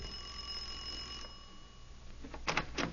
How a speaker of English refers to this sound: All right, ring the bell.